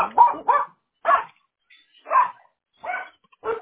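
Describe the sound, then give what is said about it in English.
A dog barks repeatedly during a phone call, short, sharp bursts, about six barks spaced irregularly over a few seconds, loud with quiet gaps between them. “I didn't hear you because of my dog.”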